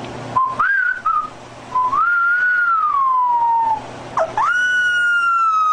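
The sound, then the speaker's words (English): A puppy that doesn't know how to howl yet makes thin, high whistling whines in place of a howl while its owner tries to get it to howl: a few drawn-out tones that rise, waver and slide in pitch, fairly loud, with no talking. “The puppy just, he doesn't know how to howl yet, so he makes this noise.”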